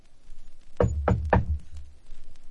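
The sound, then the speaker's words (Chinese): Three firm knocks on a locked bedroom door in quick, even succession, fairly loud, with a hollow thud to each strike and quiet background tone around them. “想我开门？”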